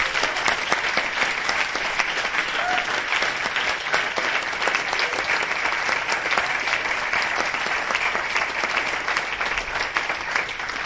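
Sustained, loud applause from an audience, a dense wash of many hands clapping steadily for about eleven seconds without letting up, with no voices standing out.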